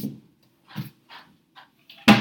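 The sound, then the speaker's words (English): A few soft wooden bumps and shuffles, as a chair is scooted around, lead up to a single sharp thud as a bookshelf door is shut, with no voices. “You heard me just close my bookshelf.”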